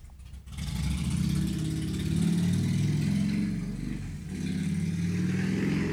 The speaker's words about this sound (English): That guy on a motorcycle, Houston Fortney, it's so loud